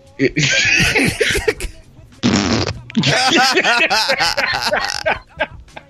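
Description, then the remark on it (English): A loud, sputtering fart sound bursts out between stretches of excited voices and laughter, with another raspy blast following after a brief pause. “Fart face. Fart face.”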